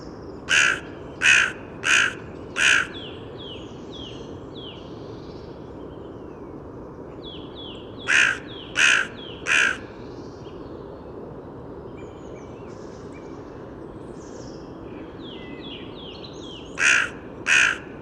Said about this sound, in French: là vous aurez reconnu tous la corneille noire.